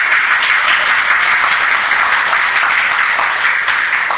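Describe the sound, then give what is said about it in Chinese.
A crowd applauds a soldier steadily for several seconds, a dense, continuous wash of many hands clapping at a loud, even level with no talking over it. “我看哦，那你掌声哦，拍好这个战士哦，真厉害。”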